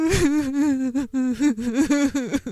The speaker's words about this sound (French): Oui, bah oui, elle pleure, oui.